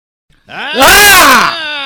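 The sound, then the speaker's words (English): A person voices one loud, drawn-out imitation of a snore, rising and then falling in pitch with a raspy, rattling middle before trailing off. “Just had a conversation with … about the snoring bit”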